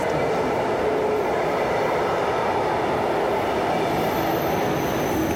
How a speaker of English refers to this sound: I feel the vibrations. I can hear the sounds so present, and the vibrations of the train. Right behind me as I'm recording this.